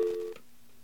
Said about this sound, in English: Okay, this sounds very similar to the busy signal we heard, but it's different. Note it's faster.